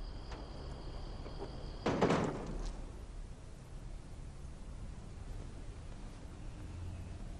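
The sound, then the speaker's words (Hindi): A door is pushed shut with a short scraping thud about two seconds in, after someone orders it closed, followed by a quiet hum with faint insect chirping in the background. “दरवाजा बंद करो।”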